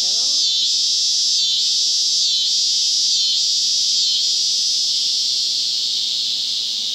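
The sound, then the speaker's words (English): An annual cicada sings a loud, continuous buzz with a steady pulsing throb, rising strong before gradually tapering off toward the end as it tires from the effort of singing; a brief voice is heard at the very start. “This is an annual cicada.”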